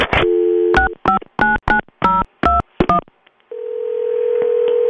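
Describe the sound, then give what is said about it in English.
A phone line tone, then a quick run of about eight touch-tone keypad beeps as a number is dialed, a short pause, and a steady ringing tone that holds to the end while waiting for the call to be answered. No one speaks. “Come on, Ma. Answer the phone.”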